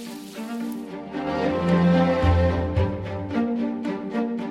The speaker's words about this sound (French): Le serveur a déposé un morceau de viande sur le grill.